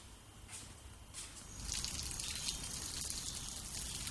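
Water sprays and patters steadily onto plants and ground as plants are watered in a small yard with a berry tree, cherry tree, cypress, red roses, petunias and night-blooming jasmine, starting with a few light splashes and then swelling into a continuous hissing shower to the end.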